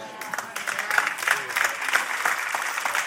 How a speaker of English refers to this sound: My applause is dying out.